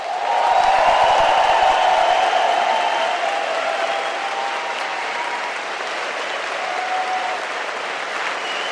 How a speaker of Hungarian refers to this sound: Szóljon ez a taps egyúttal azokért a hallgatókért és hallgatói szervezetekért is, akik most és a következő időszakban is Európa más országaiban hozzánk hasonlóan jogaikért küzdenek.